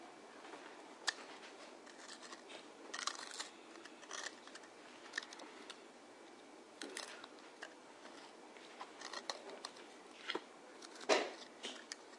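Quiet scratching and tapping of a white pen dragged across a hard board while colouring a balloon white, in short irregular strokes with small clicks between them, and no voices.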